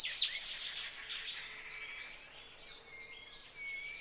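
Several birds sing at once in a soft chorus of overlapping high chirps and rising, falling whistles that continue steadily throughout, with no voices present.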